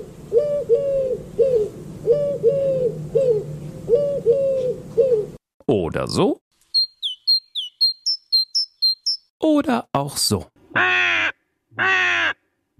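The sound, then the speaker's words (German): A series of different bird sounds: low repeated hooting, then a run of rapid high chirps and loud harsh calls, with a man briefly speaking between them. “Vögel haben ja die unterschiedlichsten Gesänge. Manche klingen so.”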